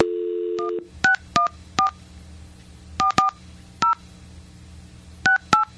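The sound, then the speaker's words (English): A loud telephone dial tone hums briefly, then a phone number is dialed: a string of about nine short two-pitched keypad beeps, punched in uneven clusters with pauses between them, over faint background noise. “So start dialing then.”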